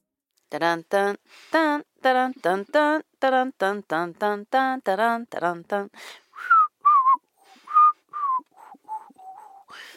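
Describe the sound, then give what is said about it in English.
Someone whistles a short, wavering melody of clear single notes, fairly loud, following a quick rhythmic run of buzzy, voice-like tones. “You know that was whistling.”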